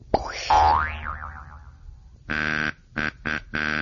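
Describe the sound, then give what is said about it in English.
A springy cartoon boing wobbles down and fades, then old Hornbill, a bird in the woods, honks his buzzy horn four times: one longer blast followed by three short, quick toots, loud and without voices. “Oh, that's just old Hornbill blowing his horn.”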